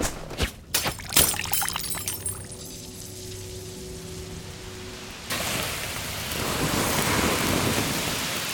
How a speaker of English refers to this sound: A downpour's gray shall take this space. Pluvia.